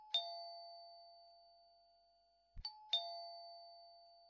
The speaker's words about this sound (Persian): من به زندگی فکر میکدم و روزای خوب پیش رو که زنگ دروازه خانه ما به صدا در آمد.